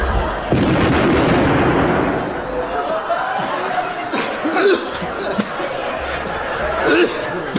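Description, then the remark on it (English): A sudden loud gun blast bursts out as a gun fires, then rumbles away into a long crashing roar as the shell smashes through an office, with people's voices and some laughter rising over the fading noise. “Blimey! It's gone smack bang through number one's office.”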